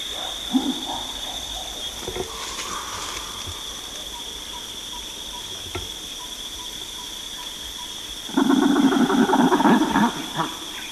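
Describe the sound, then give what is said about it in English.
Chimpanzees hoot over a steady high insect drone: hooting and drumming from one cluster of chimps, with a few sharp drumming thumps early on, followed by hooting from another cluster, a louder burst of rising hoots building near the end. “Hooting and drumming from one cluster of chimps by hooting from another cluster.”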